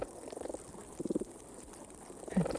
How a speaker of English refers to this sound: Some underwater sounds of fish. Damselfish. Oh, hear them? Mm-hmm. Oh, yes. That's really great. They're like little birds.